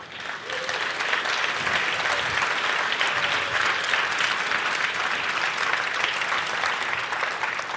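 Steady audience applause fills the whole stretch, a dense, even wash of many hands clapping at a consistent loudness with no voices standing out.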